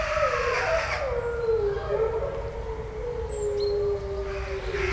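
Long, drawn-out howls from several wolves overlap, slowly sliding downward in pitch, with a faint higher wail joining briefly; steady, moderately loud over a low background rumble, no speech.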